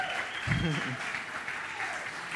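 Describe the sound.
An audience applauds steadily throughout, a dense, even wash of clapping, with a short voice or cheer rising briefly above it early on.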